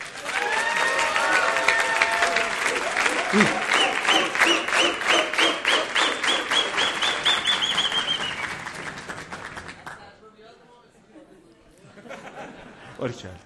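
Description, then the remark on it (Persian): A crowd applauds loudly with dense, rapid clapping and some cheering voices mixed in, lasting about ten seconds before dropping off abruptly to quieter murmuring. “جدی میگم ها، تشویق کنم.”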